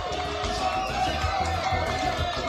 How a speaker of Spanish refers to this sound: La verdad que un fuerte aplauso para la gente de Quack FM también, ¿eh? Tenemos aplausos, ¿sí? Aplausos y ovaciones, ahí está.